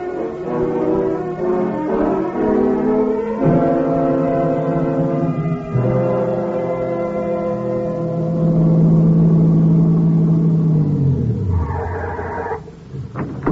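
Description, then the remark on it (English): A car engine roars and revs loudly, its pitch climbing and shifting through gears, then sliding down as the car pulls away to drive down the road to a gas station, with no voices. “You get in the car, drive down the road to the gas station, and use their phone, huh?”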